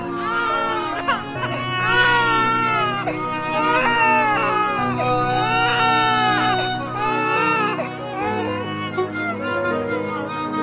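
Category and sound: human body sound, newborn baby crying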